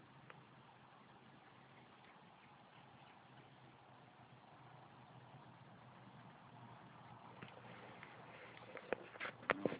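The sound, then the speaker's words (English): A car engine idles with a steady, low rumbling drone that holds even throughout, growing slightly louder toward the end, where a few sharp clicks and rattles break through. “That car.”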